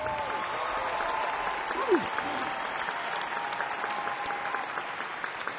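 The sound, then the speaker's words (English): Sustained audience applause for a musician at a concert celebrating the music of a singer, a dense steady clatter of many hands clapping at an even moderate loudness throughout, with a brief whoop or cheer rising out of it partway through. “One more time, a round of applause for ….”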